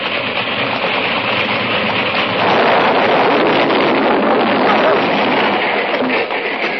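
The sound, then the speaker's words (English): A small train, an engine and one car, roars steadily with a broad rushing, rumbling noise that swells louder partway through and holds until the end as a trestle gives way and the train plummets about 1,000 feet to the bottom of a gorge, with no voices. “Looked to me as if that trestle just gave way and that little train plummeted 1,000 feet to the bottom of that gorge”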